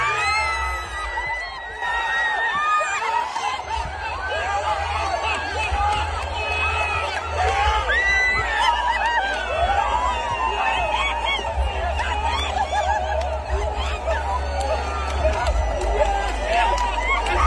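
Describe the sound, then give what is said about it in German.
A dense crowd roars and shouts continuously, many overlapping voices cheering and yelling with a steady low rumble underneath, loud and sustained throughout, celebrating a televised song contest victory. “Wie oft können wir diesen Jubel noch anschauen?”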